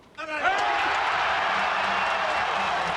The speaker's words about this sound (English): Russian Marat Safin overpowered American Andy Roddick in straight sets in front of a jubilant crowd in central Moscow's Olympic Stadium.